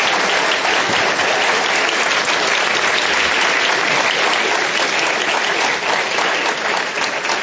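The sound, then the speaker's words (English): A large audience at a meeting of Inform and the Commonwealth Club claps steadily and loudly for several seconds for Tom and David Kelly, a dense, continuous wash of applause with no voices standing out. “Now let's have a big round of applause for Tom and David Kelly for sharing their thoughts with us tonight.”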